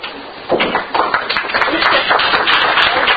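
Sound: audience applause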